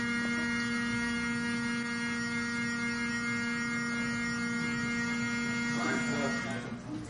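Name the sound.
fire alarm going off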